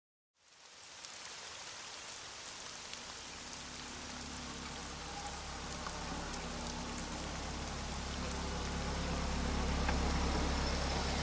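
Steady, heavy evening rain pours down on Bel Air Road in East Baltimore, a dense hiss of drops spattering on surfaces, with the low engine rumble of a Toyota Corolla pulling into a parallel parking spot underneath that grows slightly louder toward the end. No one speaks.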